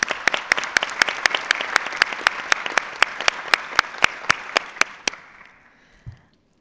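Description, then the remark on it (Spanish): A crowd of delegates at an UNCTAD IGE meeting applauds the vice-president steadily for about five seconds, with sharp individual claps standing out over the dense patter before it quickly dies away into near silence. “la señora Yvonne Stein, por quien les pido un aplauso”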